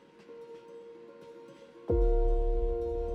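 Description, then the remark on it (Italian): A steady mechanical whine hums along, then at about two seconds a loud, deep rumble surges in and carries on, like a train rolling heavily along its rails; a train bound for Livorno, Italy, in January 1921. “Jules è sul treno che lo porterà a Livorno, dove parteciperà al 17° congresso del PSI.”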